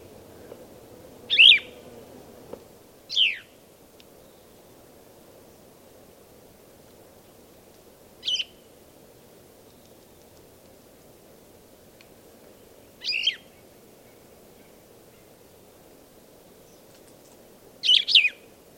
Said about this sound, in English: Birds foraging right now and swallowing a large caterpillar. Took the caterpillar and whacked it against the branch about 3 times and then swallowed it.